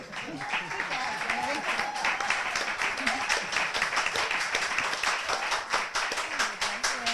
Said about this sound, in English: That's an applause line out here.